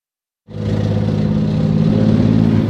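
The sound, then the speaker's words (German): A Marder armoured infantry fighting vehicle engine abruptly fires up after silence and settles into a loud, steady, deep rumbling idle with a throbbing low drone, with no voices, at the Bundeswehr training area Augustdorf near the Teutoburg Forest, Germany. “Leopard Marsch, Marder, Motor an, Marder, Motor an.”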